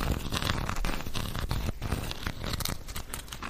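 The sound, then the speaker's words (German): Continuous scratchy rustling as a pen is rubbed and scraped back and forth over a surface, with a dense crinkly texture and no voices. “Du kannst damit so ein bisschen drauf rumrascheln oder sowas.”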